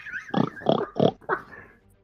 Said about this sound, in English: He's going to end it at the oink.